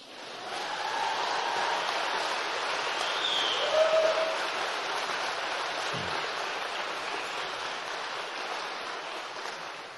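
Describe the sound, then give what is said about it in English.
A crowd at a graduation ceremony claps for a student graduating with a Bachelor of Arts in Biblical Studies and Theology, a dense, even wash of applause that holds at a fairly constant level for the full ten seconds, with a brief whistle-like tone rising out of it partway through. “You may applaud if you choose.”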